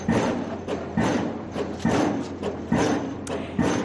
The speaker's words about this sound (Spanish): Una inmensa máquina trabaja en estos momentos en la A5, una máquina pilotadora que está taladrando la calzada sur con un sonido similar a este.